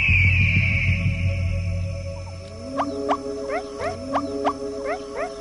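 A meerkat sentinel gives a rapid series of sharp, chirping alarm calls that warn the others after an eagle spots the group. The calls repeat in quick bursts over a low rumbling background after a quieter opening.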